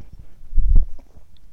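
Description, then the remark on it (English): A single sip from a drink, a soft wet slurp followed by a muffled gulp, with no talking. “Another sip.”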